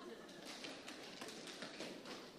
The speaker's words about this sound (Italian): Se sei con me, sbatti il tuo piede a terra. Una volta un piede.